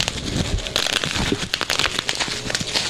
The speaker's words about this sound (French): Qu'est-ce qu'on entend au loin? Merde, mon papier bulle.